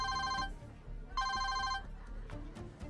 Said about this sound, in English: So I sit down. I have my napkin across my lap. I'm talking to my friends and family, and my phone rings.